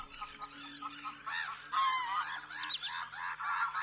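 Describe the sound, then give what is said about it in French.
A flock of black-headed gulls gives repeated harsh, high-pitched laughing cries, overlapping in a busy chorus that carries on steadily, moderately loud, with no one speaking. “Concernant le chant, les mouettes rieuses ont un cri aigu qui ressemble à un rire.”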